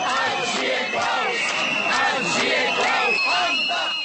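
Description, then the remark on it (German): A dense crowd shouts and chants anti-Klaus slogans together at a steady, loud level, whistling at President Václav Klaus as he laid a wreath on Národní Street (Nationalstraße) at the commemoration of protests suppressed 20 years earlier, with a sustained high whistle cutting through the din near the end. “"Es lebe Klaus", riefen die einen, andere skandierten Anti-Klaus-Parolen und pfiffen den Präsidenten aus.”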